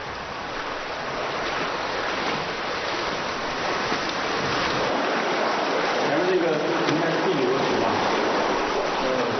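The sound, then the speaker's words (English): An underground river rushes steadily through a limestone cave, fed by countless drips and trickles, a dense, continuous roar of flowing water that fills the space, loud throughout with no pauses. “Fed by countless drips and trickles, the subterranean river carves ever deeper into the rock.”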